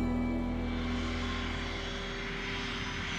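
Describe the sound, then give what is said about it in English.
A steady, loud drone of the jet engines of a Boeing 727-100 airliner, Flight 305, registration N467US, as the cockpit crew readies it for takeoff: a constant low roar with a thin whine on top that holds even throughout, with no voices. “In the cockpit, Captain William Scott and his co-pilot and flight engineer ready the plane for takeoff. Flight 305 is a Boeing 727-100 with the FAA registration number of N467US.”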